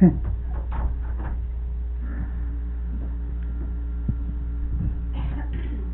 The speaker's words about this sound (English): Just want to close this door here. Air is coming in.